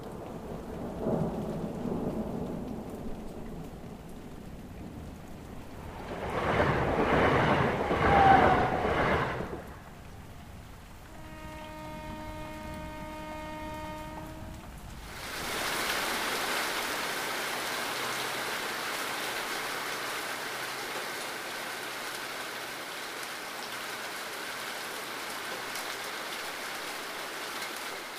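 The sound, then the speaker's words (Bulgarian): Pouring rain hisses steadily and loudly for the second half, preceded by a rumble of thunder and a brief sustained tonal sound; no one speaks. “Валеше проливен дъжд, между впрочем той го беше прогнозирал и казал, а на другия ден ще вали проливен дъжд.”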